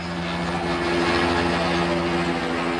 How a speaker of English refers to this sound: The video is grim. Almost drowned out by the hovering helicopter, Rodney King writhes on the ground as four cops beat him with batons, repeatedly and furiously, and several others stand by.